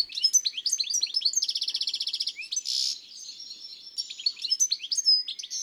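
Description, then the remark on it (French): Goldfinches sing in a chestnut tree in a village in the morning, a bright, busy tumble of twittering notes, with a fast buzzy trill in the middle and a short wheezy burst, without any voices. “Les jolies chardonnerets dans le marronnier.”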